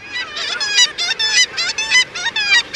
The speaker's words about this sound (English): The cry of the kittiwake rings out across the northern ocean. Kittiwakes were well known to even the earliest northern seafarers. Named for its rhythmic calls, the black-legged kittiwake, as it is known in North America, is a dapper oceanic gull.